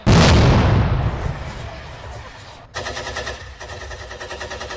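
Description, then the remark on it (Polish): A loud grenade explosion booms and rumbles away for a couple of seconds, then a rapid stream of gunfire bursts crackles steadily until the end, during a military exercise in which soldiers crossing terrain are ambushed. “Podczas pokonywania terenu żołnierze zostają zaatakowani, ostrzelani i obrzucani granatami.”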